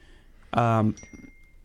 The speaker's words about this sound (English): And there's the bell.